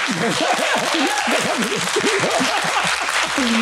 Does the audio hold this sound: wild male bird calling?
no